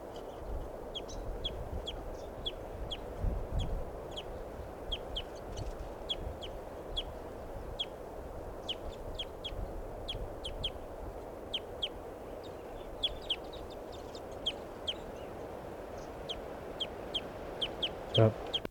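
crossbill flock pre-flight calls

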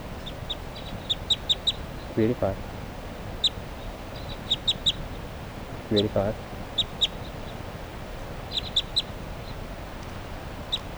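flock of birds calling

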